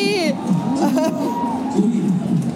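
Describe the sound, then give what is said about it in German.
A brief, shrill excited shriek bursts out at the start, then gives way to a loud, continuous babble of cheering, whooping voices, like an enthusiastic crowd of fans. “Vielleicht kreische ich mal kurz 5 Sekunden.”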